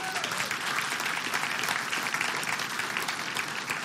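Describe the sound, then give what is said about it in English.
A crowd applauds a speaker's statement about casting a vote on November 5th for a biblical worldview. It claps steadily for the full four seconds, a dense, even wash of many hands clapping at a fairly strong level, with no voices standing out. “Now, for those of you that just clapped, I hope you keep clapping, because there's some things I got to say that you ain't going to like.”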